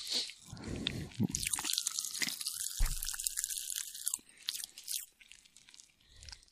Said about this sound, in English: Well, I think over the next couple of seconds, you're going to get like some Pop Rock ASMR. I don't know if that's going to get picked up or not. I hope it does, because it's going wild.